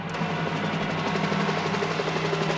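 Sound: helicopter flying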